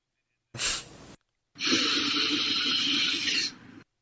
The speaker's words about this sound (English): There's a sniff and then there's a hoover. There's a difference. Sniff is like, hey man, don't disrespect me. The hoover is a guy ….